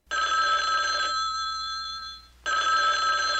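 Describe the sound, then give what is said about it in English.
A telephone rings with a bright, buzzy, multi-toned trill that sustains for about two seconds, trails off, then starts ringing again after a brief pause. No voices accompany it. “Phone call.”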